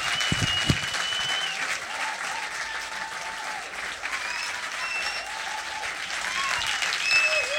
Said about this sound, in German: Weiter klatschen, noch bin ich nicht weg. Ciao.